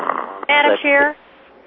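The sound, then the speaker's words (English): A sleeping person at a meeting snores twice in quick succession, each snore a loud, harsh, buzzing rasp lasting about a third of a second, with a low murmur before and quiet after. “Madam Chair, someone seems to be sleeping and snoring.”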